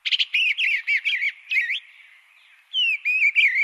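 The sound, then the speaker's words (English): An eastern bluebird sings a soft, warbling series of short, burry phrases, pausing briefly mid-song before resuming with a few more clear notes, alone. “Thanks in large part to this community-led advocacy, eastern bluebirds are now thriving.”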